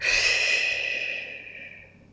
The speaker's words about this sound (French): Prends maintenant une profonde inspiration par le nez, puis souffle énergiquement par la bouche.